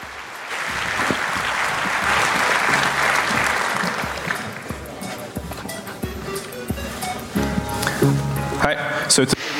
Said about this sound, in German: Vielen lieben Dank. Und damit bitte eine Runde Applaus